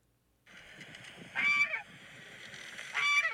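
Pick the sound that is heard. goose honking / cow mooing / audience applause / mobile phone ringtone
goose honking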